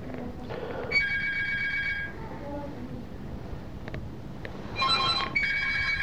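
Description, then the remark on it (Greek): A telephone rings in two electronic trilling bursts separated by a short pause, clear above a noisy background with faint murmuring. “Έχεις το τηλέφωνο?”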